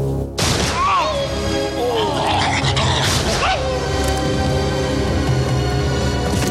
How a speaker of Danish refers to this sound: ser ikke, hunden bliver skudt. Nu lægger den bare og slapper af.